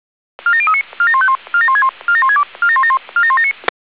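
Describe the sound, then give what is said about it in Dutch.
Fire brigade pager alert tones for a platoon alarm of the Vinkveen Mijdrecht fire brigade, called to a dike breach on the Ringdijk in Wilnis: six rapid bursts of stepped electronic beeps in a repeating pattern, each burst a quick run of shifting mid-high pitches with short gaps between, loud and with no talking. “U heeft een pelotonsalarm voor de brandweer Vinkveen Meidrecht.”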